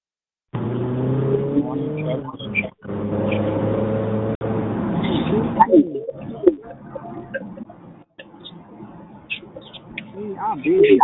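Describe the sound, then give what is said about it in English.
A diesel truck engine drones loudly with a steady, throaty rumble for about five seconds, then a person says good morning over the fainter engine hum, all sounding muffled as if through a phone line on a call. “Is someone saying good morning in a diesel truck?”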